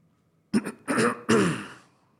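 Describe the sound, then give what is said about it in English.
A person coughs and clears their throat in a quick series of harsh, raspy bursts, fairly loud, with no talking. “Cough break.”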